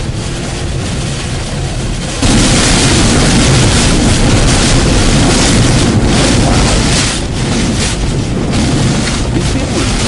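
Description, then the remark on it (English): Strong wind blows steadily into the microphone with a broad, roaring rumble that swells louder after a couple of seconds and keeps buffeting with gusts throughout. No one speaks. “that's the blowing wind that you're hearing.”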